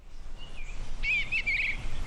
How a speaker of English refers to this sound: Birds are chirping, a breeze is blowing, and chickens are clucking as a man named Lewis points to a small urban farm